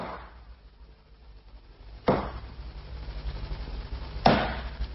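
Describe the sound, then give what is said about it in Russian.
An elderly woman's walking cane taps twice on the floor as she walks with it, two sharp, solid knocks spaced about two seconds apart, with a low steady rumble underneath and no talking. “Она идет-то клюшкой, постукивает.”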